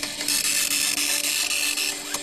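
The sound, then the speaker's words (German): A dot matrix printer, which forms letters from individual dots, rattles out a line, a loud, steady, high-pitched buzzing rasp with quick little stutters, running for about two seconds with no voices. “Das ist ein Matrix-Drucker, der setzt die Buchstaben aus einzelnen Punkten zusammen, wie man hier ja auch ganz deutlich sehen kann.”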